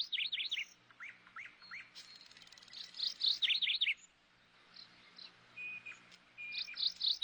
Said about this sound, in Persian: صدای شنیدن آواز یک بلبل در داخل یک باغ و خدمت شما عرض شود که اصلا تداعی یک استراحت و به قول گفتنی که یک آرامش رو برای ما به همراه خواهد داشت.